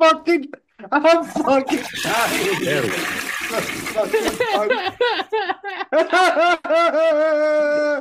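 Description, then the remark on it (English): A toilet flushes in a single rushing, gurgling burst lasting a few seconds, loud, with voices talking and laughing over it before and after. “Okay, I found the toilet flush.”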